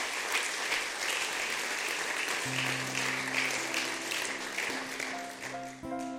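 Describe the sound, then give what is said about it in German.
Sustained crowd applause at ICF, a dense steady clatter of many hands, while soft held musical chords fade in underneath about halfway through and continue to the end. “Gebt ihm nochmal einen Applaus.”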